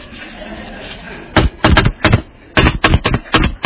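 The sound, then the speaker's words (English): A rhythmic, drum-like knocking on a door: a quiet opening, then two syncopated bursts of loud, sharp raps played like a beat, with short pauses between groups. “Well, this even happens when he knocks.”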